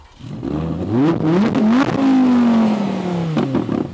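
An Audi R8 V10 Plus sports car engine of 610 horsepower revs up in quick blips, then surges into a loud, sustained high-pitched roar that slowly drops in pitch, without any talking.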